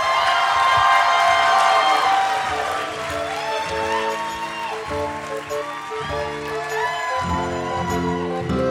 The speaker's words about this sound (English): Did you hear all that applause and laughter? A big thanks to our post-production department for making that sound so realistic. And special thanks to everyone working at the City Winery, New York, and all those who came out for the show.